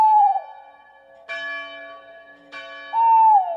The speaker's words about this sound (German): Beim Ruf des Waldkauzes, den man hierzulande öfter hören kann, kriegen die Kinder fast ein bisschen Gänsehaut.